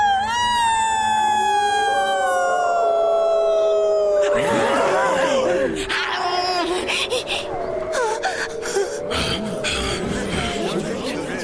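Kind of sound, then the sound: animal, wolves howling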